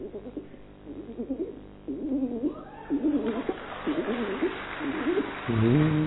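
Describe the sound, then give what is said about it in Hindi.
A person imitates pigeon cooing with a series of low, throaty, rolling coos in a steady rhythm, moderately loud, ending on a longer, slightly bleating note. “कबूतर का आवाज है?”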